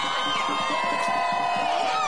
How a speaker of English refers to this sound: And there was this one moment that I want to play where the crowd starts chanting his name and for you to hear his response.